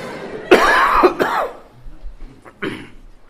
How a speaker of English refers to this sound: Okay, now, this is some cough syrup. And I'm going to take it. Now, if there's any of you who question whether this is really cough syrup, you may come and check it out later.